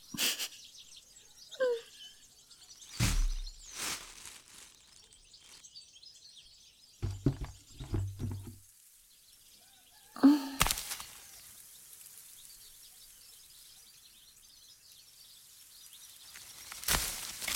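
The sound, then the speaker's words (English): Birds chirp and sing steadily among apple trees in an orchard, a soft, busy chorus in the background, broken by a few sharp, brief knocks or thumps. “It's just you and me and these apple trees. Yeah, and the birds.”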